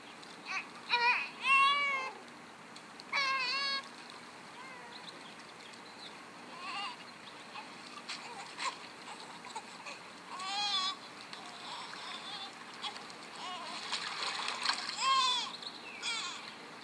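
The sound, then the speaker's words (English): Water splashes and churns in a continuous rushing wash as an ark is filled with water and sunk, while loud bleating animal cries break out in short bursts over it at several points. “Fill the ark with water. Sink it into silence.”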